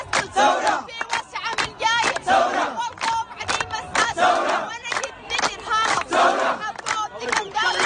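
A large crowd of protesters in Khartoum, Sudan, chants loudly in rhythmic bursts, answering a young female student who leads a chant of popular poetry in a repeated call-and-response pattern; the crowd replies "Taora", with energetic shouts rising and falling every second or so.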